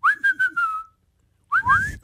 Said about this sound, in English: That's about as loud as I can whistle.